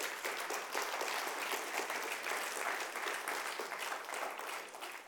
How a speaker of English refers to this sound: Can we give Jesus a hand clap for wanting to do that for us?